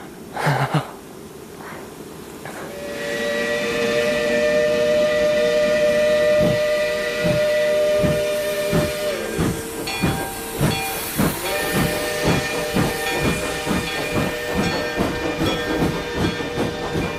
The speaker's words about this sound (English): A special train sent by the railroad company made a swift, unbroken journey away from the land of coal, iron, clank, and roar.